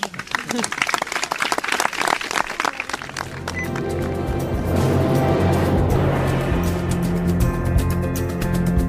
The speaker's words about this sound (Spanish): Por lo tanto, yo ahora lo que me gustaría es un aplauso, pero para todos.